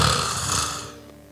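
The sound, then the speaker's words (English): A single long, rasping snore imitated by a voice, depicting Jesus asleep in a boat, starting loud with a rough low rattle and a breathy hiss, then fading out over about a second. “He's in a boat, he's sleeping.”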